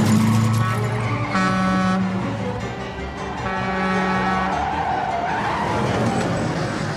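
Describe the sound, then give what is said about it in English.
A car brakes hard on a one-way street with loud tire screeching, two long squealing skids rising over a constant roar of engine and road noise, with no voices. “Now, normally you would not be going 65 down the wrong way of a one-way street. Apply the brakes.”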